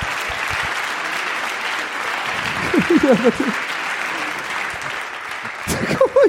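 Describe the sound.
Sustained audience applause at a stage event in Krefeld, a dense wash of clapping that stays steady throughout, with brief voices and cheers rising over it near the middle and end.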